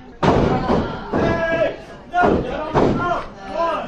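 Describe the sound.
A wrestler is slammed onto the ring mat in a series of heavy, booming thuds, four sharp impacts within a few seconds, over a steady murmur of crowd noise and voices.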